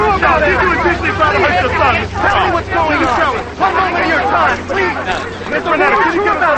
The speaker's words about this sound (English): They walk past the crush of reporters toward the courthouse.